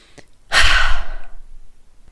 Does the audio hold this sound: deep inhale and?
yes